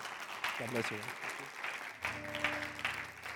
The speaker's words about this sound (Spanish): Claro que sí, denle un fuerte aplauso.